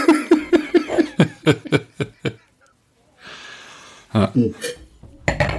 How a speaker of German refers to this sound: Warte mal, ich drücke mal den Kronkorken drauf, mal gucken, was passiert.